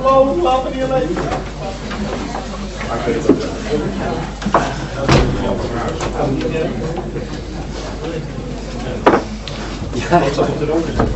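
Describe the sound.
A door is shut as a meeting is about to begin, a sharp thud amid murmured conversation, followed a few seconds later by a softer knock, as people keep talking.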